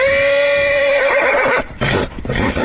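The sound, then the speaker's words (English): A mare named Yolanta, at stables in Afton, whinnies loudly, a long quavering neigh that sweeps down in pitch and breaks into snorting, rough breaths at the end, as she is being prepared to be taken north of Stillwater. “are preparing to take their mare, Yolanta, from stables in Afton to north of Stillwater.”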